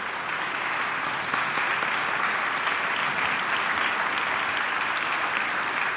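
Sustained audience applause, a dense, steady wash of many hands clapping at an even loudness for the full stretch, with no voices heard over it.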